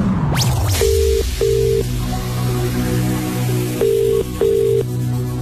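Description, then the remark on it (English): A British-style phone ringing out as Heart radio makes a call to a listener: two double-burst ring tones, a pause between them, over a low steady background hum, with a quick rising whoosh just before the first ring. “So, who is it going to be today? Let's make the call.”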